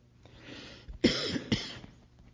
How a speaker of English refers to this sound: Seems like coughing helps for some reason.